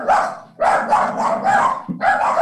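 A dog barks repeatedly in quick succession during a board meeting, a run of loud, yelping barks with a brief pause partway through before more barking resumes.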